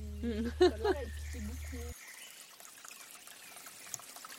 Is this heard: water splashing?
yes